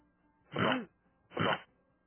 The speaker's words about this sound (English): What is it? Burp? I think he's clearing his throat.